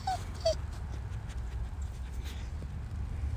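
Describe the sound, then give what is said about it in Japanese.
A dog, Toichiro, gives two short, high whimpers in quick succession near the start, each a thin falling whine, while being scolded for eating cigarettes, nudging a smartphone with its nose and pawing at it, then goes quiet over a steady low background hum. “スマホを鼻つんして手でちょんちょんやって、そんなこと言わないでくれよと言ってます。”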